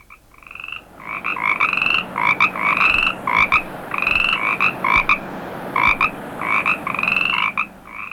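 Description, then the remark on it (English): An Australian gastric brooding frog, a rare species rediscovered in Queensland, croaks loudly in a steady run of short, harsh, buzzy calls, some clustered in quick bursts, with no voices. “The Australian gastric brooding frog, feared to be extinct, but now rediscovered in Queensland, raises its young in its stomach and delivers them by regurgitation.”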